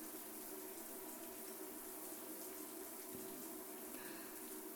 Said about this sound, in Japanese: ジャバジャバ、ジャバジャバ、泡をどんどん洗い流して。